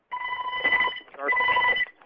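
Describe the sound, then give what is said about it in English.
A telephone rings twice in quick succession in the background of a conference call, each ring a steady electronic warble lasting under a second, fairly clear and even in volume with no voices. “*6 will mute your line, which with the ringing in the background may want to do.”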